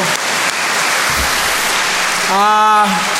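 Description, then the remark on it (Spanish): A steady wash of applause, many hands clapping in a dense, even crackle for several seconds, with a voice briefly calling out over it toward the end. “Y yo creo que hasta deberíamos de reconocerles con un aplauso porque la verdad es una...”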